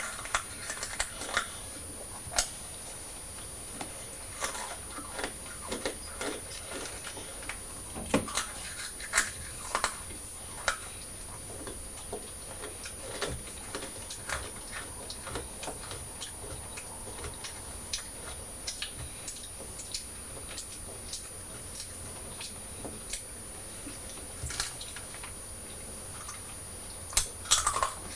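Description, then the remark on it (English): Sharp crunching of Hula Hoops crisps, many irregular crackly bites and chews over nearly half a minute, with a soft breathy background and no talking. “Why are you putting your hands over your ears before you crunch your hula hoops?”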